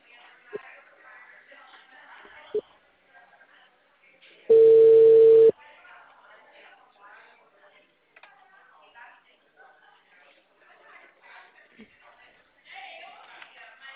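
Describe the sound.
A loud, steady electronic telephone tone sounds once for about a second as a phone call drops, cutting in between stretches of conversation; talking continues before and after it.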